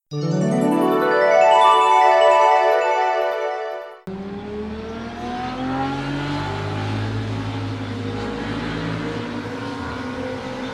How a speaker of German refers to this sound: Ein Motorrad.